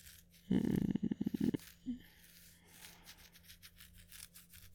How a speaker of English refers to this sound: Let me run my hands through your hair. And you like scratches on your scalp. Behind your ears, maybe.